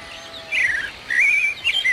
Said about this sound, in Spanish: Escucha los pajaritos, oye el cerro, qué bien se está aquí, ¿eh?